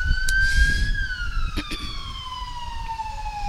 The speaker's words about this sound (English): So before I do the next thing, I'm going to wait for the sirens to go by.